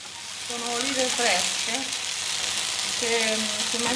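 Black olives frying in a pan give off a steady, bright sizzle and crackle throughout, with a faint murmuring voice drifting in and out beneath the hiss.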